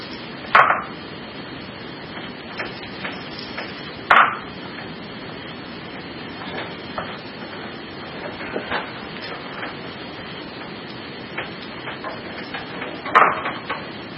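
Video game gunfire: three sharp, loud shots spaced several seconds apart, with fainter clicks and pops in between, all over a steady background hiss.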